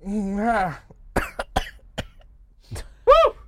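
coughing

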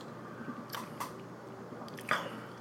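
sipping whiskey

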